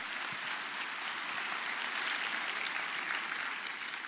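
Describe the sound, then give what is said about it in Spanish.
An audience gives applause to the Lord, clapping together in steady, dense applause that holds at an even loudness for several seconds, a continuous crackle of many hands with no voices standing out. “Y vamos a dar un aplauso al Señor, porque nuestra vida es un milagro.”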